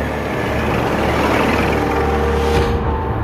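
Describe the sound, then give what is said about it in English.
An early internal combustion automobile engine runs at a steady idle, a loud, even mechanical rumble with a low droning hum and broad rattling noise over it, and no voices. “By the 1870s, the internal combustion engine has arrived, and the Germans invent its killer app, the automobile.”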